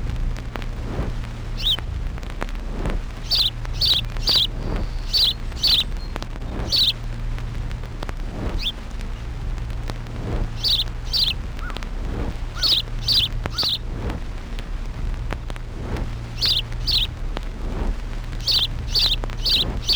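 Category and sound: bird, house sparrow chirping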